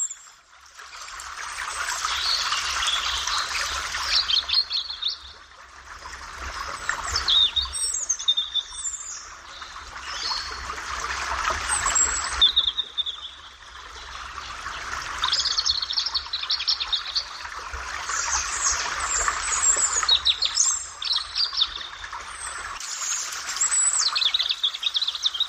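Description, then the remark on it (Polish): A forest stream flows steadily with a continuous watery rush, while a bird of the thrush family chirps and sings brightly over it, its calls coming in repeated bursts throughout. “Słychać go, słuchać nie tylko leśny potok, ale także właśnie śpiew tego ptaka.”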